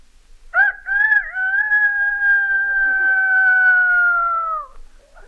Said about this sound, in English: A rooster.